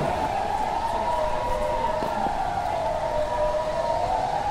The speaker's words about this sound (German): Das wäre eine ganz schöne Idee. Ich werde die mal einbringen, dass der Sirenenalarm ab jetzt fix unsere Tradition wird.